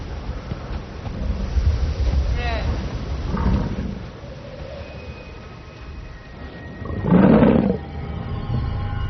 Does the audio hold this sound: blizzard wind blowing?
yes